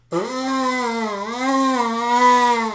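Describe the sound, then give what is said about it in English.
A loud, sustained honking buzz made with the mouth while holding a Kleenex up to the nose, imitating an exaggerated nose blow; it holds steady for nearly three seconds with a slightly wavering pitch. “I'm blowing my nose and I realize I'm making a lot of noise. I'll over-exaggerate it.”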